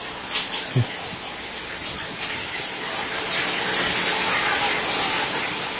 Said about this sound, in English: You were telling me before that you didn't think anybody has ever taken a shower before on USB FM.